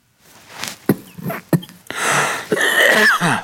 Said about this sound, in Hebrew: לבריאות